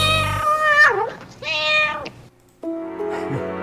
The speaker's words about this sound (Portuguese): Esse gato quer entrar, abre a porta, abre a porta que ele já entrou